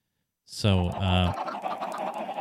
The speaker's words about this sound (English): So, as we can hear, we got a lot of chickens around us. So here it is. Here, a lot of chickens. A lot of chickens here.